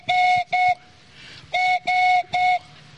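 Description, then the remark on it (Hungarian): A handmade whistle mimics a collared dove's call in two groups of steady, hollow tones, two blasts then three, each evenly pitched and fairly loud, with a short pause between groups. “Ezt pedig balkáni gerlének hívják, vagy vadgalamnak hétköznap.”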